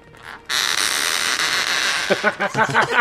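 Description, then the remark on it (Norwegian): A small, portable old computer case being opened: a brief click, then a loud, harsh sustained scrape that gives way to a run of squeaky, creaking bursts with a rough, squawk-like pitch. “Ja, det var ganske satisfying klikk på slutten da.”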